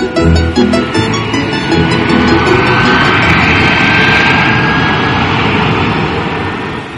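A jet airplane roars loudly and steadily as it arrives at an airport, a broad rushing engine noise with a rising whine threading through it, filling the whole stretch with no voices.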